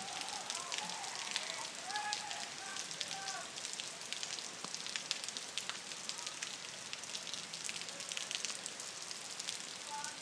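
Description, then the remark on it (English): Steady rain hisses throughout, with heavier drips from full, overflowing rain gutters landing in an irregular pattern. The sound is continuous and fairly loud, with no talking. “And that big, them big drips you can hear are rain gutters are full and it's dripping out the guttering”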